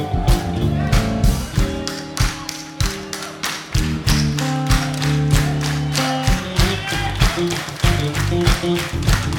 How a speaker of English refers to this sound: on Sunday morning, in church, they do a thing called soul clapping. You know anything about soul clapping? I'm gonna teach you real quick about soul clapping. It goes like this.